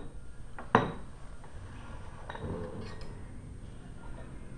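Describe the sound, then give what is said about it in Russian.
A teaspoon strikes a cup once with a sharp clink, followed by a couple of fainter light taps against a quiet background. “А была ведь чайная ложка.”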